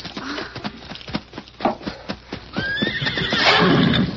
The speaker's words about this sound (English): Here's my horse.